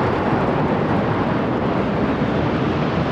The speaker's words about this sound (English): The Royal Air Force put on a spectacular display. More than 70 aircraft flew across London, including Apache helicopters, Typhoons, and the Red Arrows.